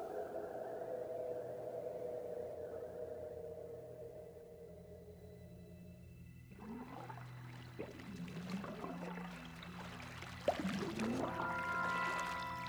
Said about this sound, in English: What are those bubbles? Hmm? Behind us. They're coming this way. Do you think some kind of creature could live in this wretched lake?